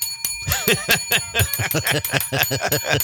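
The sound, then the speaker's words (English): A bell rings rapidly over and over, a quick run of bright, metallic dings with a lingering shimmer, fairly loud, with no voices underneath. “could I have a bell? Could you give me one, please?”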